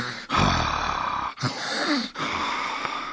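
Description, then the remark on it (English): A voice imitates snoring with three loud, rasping breaths in a row, each separated by a brief pause, close and exaggerated like a cartoonish snore. “Amy snored.”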